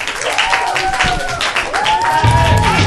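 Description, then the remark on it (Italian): A small group of children clapping in a quick, uneven burst, with high excited voices cheering and calling out over the applause, fairly loud throughout. “Ce l'abbiamo fatta! Applauso!”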